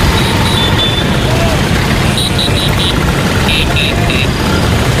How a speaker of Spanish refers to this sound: Banderas de sus países, tocando el claxon, como decimos, y esa postal tan bonita, tan italiana, de las 10.000 Vespas recorriendo las calles frente al Coliseo Romano.